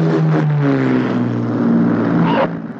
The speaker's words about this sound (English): As the planes come in to land, he goes back inside.